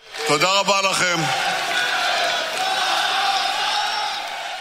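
crowd chanting

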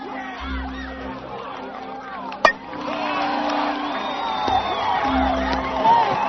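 crowd cheering

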